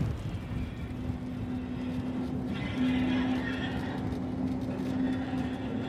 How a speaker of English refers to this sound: We're on the Mountain Railway now, which is an electric tram which runs up, at times, a 1 in 12 incline up Snaefell